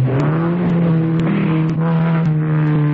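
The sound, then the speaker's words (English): A car engine revs loudly and continuously for three seconds, its low, buzzing tone holding fairly steady with slight swells. Faint clicks tick through it at regular intervals, and no one speaks. “A man who knows how to handle his car.”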